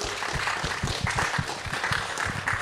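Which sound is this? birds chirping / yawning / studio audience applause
studio audience applause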